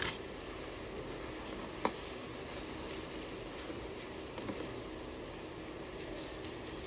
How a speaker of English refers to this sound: I love that sound, by the way. It's awesome. Turning pages.